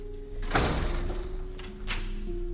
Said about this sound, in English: Chloe weighs the card in her hand. She passes it over the electronic lock and opens the door.